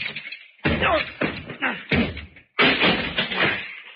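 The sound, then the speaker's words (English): Heavy, booming blows strike a locked door about four times in quick succession, each a loud thud, and the last gives way into a long crashing, splintering clatter as the door is broken down and bursts open. “Oh, that door's locked. Stand back, Fern. Yeah. I'll have to break it down.”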